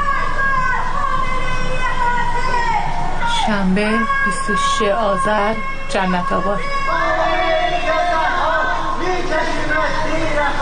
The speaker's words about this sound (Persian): از خانه‌ها و مجتمع‌های مسکونی در منطقه‌های جنت‌آباد و بلوار مرزداران صدای شعارهای ضد حکومتی به گوش می‌رسید.